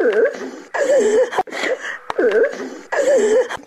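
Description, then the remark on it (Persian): A woman in Fayzabad, Badakhshan province, Afghanistan, weeps and wails in grief for loved ones killed in war, her voice rising and falling in long, wavering sobbing cries that come in repeated bursts, loud. “در سوگی عزیزانی از دست رفته اش اشک می ریزد.”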